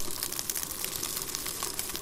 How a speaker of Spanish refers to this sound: Suena que se están friendo unas papas fritas o unos boquerones. Pero no, no, es una comunidad de miles de gusanos en un terrario.